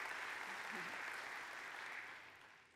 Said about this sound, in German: Ja, ein weiterer Applaus.